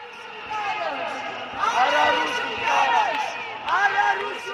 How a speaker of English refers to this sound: No to the Russian law, a huge crowd outside parliament chanted, many of them students and teenagers.